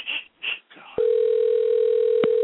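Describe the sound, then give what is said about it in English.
A telephone sound: two short, high electronic beeps followed by a steady, unbroken dial tone that hums on at an even level until the end, with no talking. “Put your phone off.”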